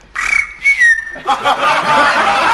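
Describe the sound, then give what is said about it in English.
A person imitates a canary by whistling: a few sustained, slightly gliding high notes, then a busier, rapid warbling trill that continues to the end. “That was a canary.”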